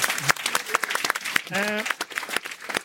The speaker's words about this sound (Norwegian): Tusen takk til BTs klimafestivalsjef Martin Hirt, som sitter bak der. Liten applaus for han.